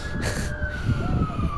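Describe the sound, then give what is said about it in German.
A wailing emergency siren on a San Francisco street holds a steady, slowly falling pitch over the low rumble of street traffic, moderately loud and continuous, with a short burst of hiss near the start. “Ich entkomme den Sirenen selbst in San Francisco nicht.”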